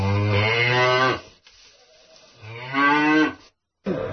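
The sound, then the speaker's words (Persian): Dairy cattle at a dairy farm low loudly while feeding, two long drawn-out moos separated by a quiet pause, with a third call starting at the very end. No one speaks. “عرضم به حضور شما که نمونه از بخور بخور گاوهای گاوداری برای شما میخوام بذارم.”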